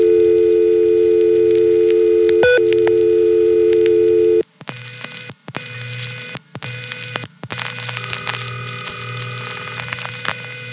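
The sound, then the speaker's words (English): A steady, loud telephone tone drones for about four seconds with a brief click, then cuts off to a hissy open line with intermittent clicks and dropouts, as another 660 user rings his phone and then picks it up. “Hey, that was another 660 user ringing his phone and then picking it up.”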